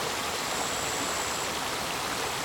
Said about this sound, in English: And this water body that I sit right now with you, we all listen to it together.